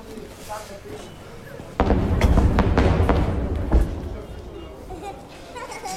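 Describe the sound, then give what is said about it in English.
A sudden heavy blast of a shell explosion booms in, followed by a couple of seconds of rumbling, crackling impacts, with a murmur of voices, a little kid giggling, and background noise before and after. “Little kid giggling at the sound of those explosions.”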